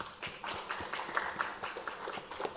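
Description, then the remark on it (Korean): A crowd breaks into applause, a dense, steady patter of many hands clapping at once, fairly loud and sustained for a few seconds with no talking over it. “박수 한번 칩시다.”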